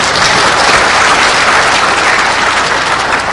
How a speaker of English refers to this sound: so let's give him a round of applause, too.